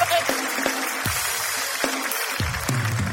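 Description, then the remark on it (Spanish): An audience applauds in a steady, dense wash of clapping, with a few sharper individual claps standing out now and then at moderate loudness. “Ok, nah, un fuerte aplauso para el perro perdido.”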